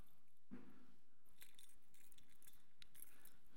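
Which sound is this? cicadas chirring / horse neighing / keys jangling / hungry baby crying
keys jangling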